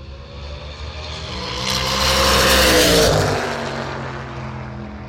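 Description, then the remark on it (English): A blue racing car roars past at full throttle on a track along the airstrip of an old World War II American Air Force base, its engine note swelling to a loud peak around the middle and sweeping downward in pitch as it fades away, with no talking. “So we've got a car on the track down the bottom, a blue one. So again, apologies if the car comes past on full chat, it'll get loud.”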